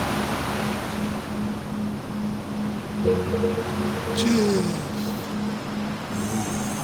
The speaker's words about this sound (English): So instead, enjoy the calming sounds of the ocean.